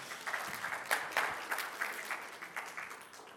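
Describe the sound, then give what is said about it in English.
A crowd applauds the ushers steadily, a dense wash of many hands clapping at a fairly loud, even level for a few seconds with no voices over it. “Let's give an applaud to the ushers.”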